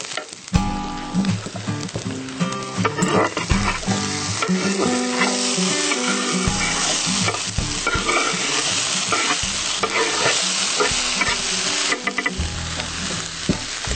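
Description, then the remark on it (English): Onions sizzle steadily in a hot pan while a utensil stirs and scrapes through them, adding scraping, clattering bursts over the constant crackling hiss. No one speaks. “The onions are looking great.”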